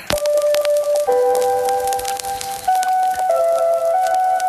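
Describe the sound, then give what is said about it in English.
Radio Moscow interval signal chimes, heard in a Soviet documentary about Yuri Gagarin: a slow melody of sustained, ringing tones stepping between a few mid pitches, heard over steady loud crackling static with no voices. “And those are the chimes of Radio Moscow.”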